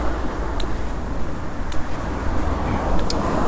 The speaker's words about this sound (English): You can also hear the traffic slowing down for the T-junction at the end.